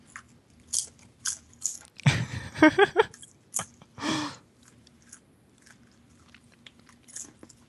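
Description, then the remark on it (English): Crunchy chewing of maple bacon popcorn, a run of sharp, crackly bites that swell into a loud burst of crunching, then trail off into softer, scattered chews with no talking. “let's try your popcorn.”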